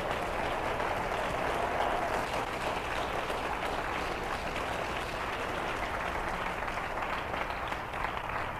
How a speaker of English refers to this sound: Oh, give Him a good clap offering.